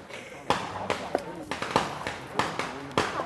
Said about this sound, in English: They'll light incense and set off firecrackers to ward off evil spirits.